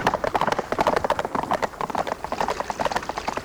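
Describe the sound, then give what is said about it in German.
Rapid clip-clop of several horses' hooves galloping toward a spring they have scented, a dense, steady drumming of hoofbeats that continues without pause. “Hey, was ist denn mit den Pferden los? Ah, sie wittern Wasser.”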